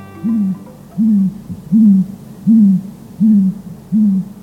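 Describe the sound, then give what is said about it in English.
An owl hoots six times in a slow, steady rhythm, each low call rising slightly then falling away, clear with no one speaking. “If you were to stand face to face with an owl, after a while it would start to move its head, bobbing rhythmically from side to side, then forward, then back, or almost completely upside down”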